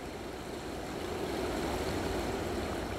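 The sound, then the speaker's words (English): A steady, broad rumble of a distant train, heard from a bridge over a river, swells gradually as it approaches, blending with a constant wash of background noise; no one speaks. “I think I can hear a distant train coming.”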